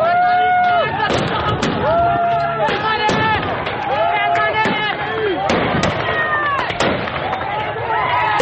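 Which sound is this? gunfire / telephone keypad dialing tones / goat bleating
gunfire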